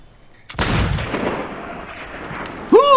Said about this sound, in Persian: گوزن دوباره در تیررس آنها قرار میگیرد. پدر آنتونی را دعوت به سکوت میکند. پدر نشانه می رود. آنتونی پشت درختی پنهان شده. پدر شلیک می کند. گوزن می افتد.